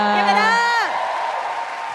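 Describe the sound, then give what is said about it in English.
An audience cheers, with a loud, close whoop that rises and then swoops down in pitch, followed by a steady wash of clapping and crowd noise for the rest of the moment. “Clap it up”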